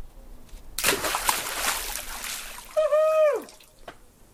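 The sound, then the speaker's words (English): A toddler leaps into water for the first time: a loud, rushing splash lasts around two seconds, then a brief high-pitched squeal from the child slides downward in pitch. A faint drip follows. “When the toddler decides to leap into the water for the first time, after watching you for over an hour, trying to get the thing ready.”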